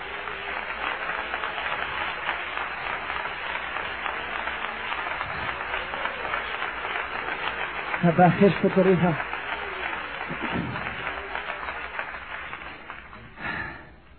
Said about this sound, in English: Let's all clap again.